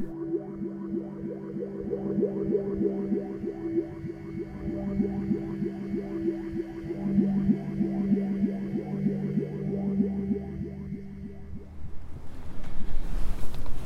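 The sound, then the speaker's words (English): Cold wind blowing outdoors on the last day of February behind the Church of the Ascension in Westminster, Maryland, over a steady low droning rumble, building at the end into a loud gust that buffets the microphone with broad hissing noise. No one speaks. “Cold and windy, maybe appropriate for where we are, what we're doing here.”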